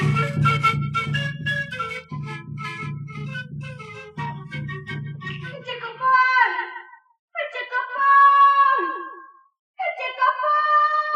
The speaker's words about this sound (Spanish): Chola gritando como loca.